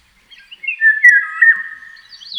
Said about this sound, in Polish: Tak śpiewa wilga.